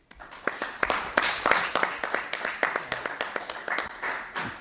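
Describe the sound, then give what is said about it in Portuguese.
A group applauds in a parliamentary committee after a deputy's speech, with dense, irregular sharp claps forming a steady, moderately loud patter for about five seconds, with no voices over it. “Uma pequena nota, normalmente nas comissões não há palmas, mas estas foram bem merecidas, porque a intervenção do Sr.”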